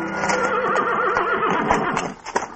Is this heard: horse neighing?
yes